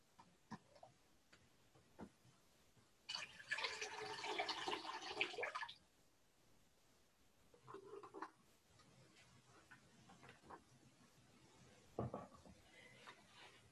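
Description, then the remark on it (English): Water collected for a water communion is poured into a communion bowl in a steady splashing stream for about three seconds, followed by a few faint drips and light clinks, otherwise quiet. “Next, I have the water that was collected from the visits to the homes of those who were unable to participate in our drive-through water communion.”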